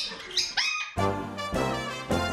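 Several birds call in a school's bird room in the morning: a few thin, high chirps at first, then three loud, harsh squawking bursts in quick succession, with no talking.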